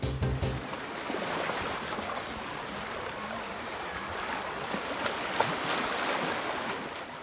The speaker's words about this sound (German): Oh, herrlich. Klingt nach Sommer, nach Urlaub, nach Meer.